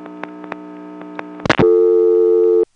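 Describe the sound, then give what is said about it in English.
A steady telephone line tone with a few sharp clicks, then a brief burst of noise before a louder, continuous lockout tone holds for about a second and stops abruptly, as an ESC telephone exchange puts the line on lockout after a coin collect instead of returning to dial tone. “This being an ESC, after the coin collect, instead of going back to dial tone, it put us on lockout.”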